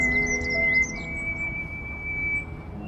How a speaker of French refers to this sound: Ouais, alors cet endroit où on est, là, il y a beaucoup, beaucoup d'oiseaux, il y a des petits grimperons.